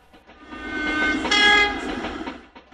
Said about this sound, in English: It's not our train, he sighed. It's going the other way, out towards the Purple Hills.